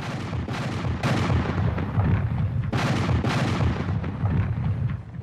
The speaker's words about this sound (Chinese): 从他们所在的位置可以看到南军部队架设火炮，130多门火炮全部指向北军中段防线。上午过去了，天气越来越热，下午1点刚过，南军大炮打响一下又是一下，这个是行动的信号。